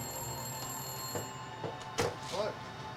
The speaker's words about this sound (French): Le téléphone se mit à sonner à 19h précise quand le père d'Amy arriva.